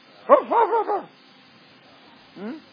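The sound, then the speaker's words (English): A man's voice imitates a dog barking: a quick burst of three or four gruff woofs, a short pause, then a single bark, clear. “If you don't give nothing, what are you barking about?”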